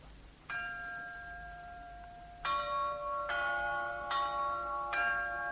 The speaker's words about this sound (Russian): Колокола. Они оповещают небо о рождении нового человека на земле.